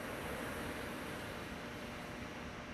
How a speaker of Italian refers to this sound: Lascia che il suono della mia voce diventi il tutt'uno con i suoni dell'oceano.